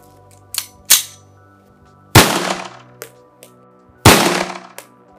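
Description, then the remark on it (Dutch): Several sharp 9mm blank alarm pistol shots on the shooting range of the police training centre in Kerkrade, two of them loud with ringing, echoing tails, mixed with smaller cracks at uneven intervals over a low steady hum, with no talking. “En dan gaan we de 9mm doen.”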